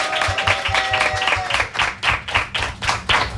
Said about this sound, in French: On peut encore l'applaudir, félicitations à toi.